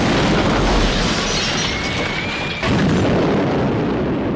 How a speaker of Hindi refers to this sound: अगले दिन engineer company ने एंटी टैंक माइंस लगाई ही थी कि पाकिस्तानी साइबर जेट्स ने भारतीय ठिकानों पर बमबारी शुरू कर दी।